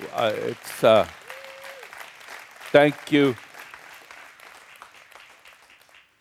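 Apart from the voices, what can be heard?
audience applause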